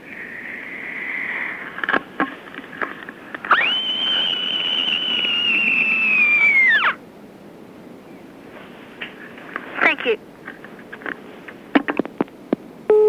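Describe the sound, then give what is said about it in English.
A child in year six from Goulburn lets out a special end-of-a-hard-day scream, one long, piercing scream held at a steady high pitch for about three seconds before dipping slightly and stopping abruptly, with faint background noise before and after. “Here is my special end of a hard day in year six scream.”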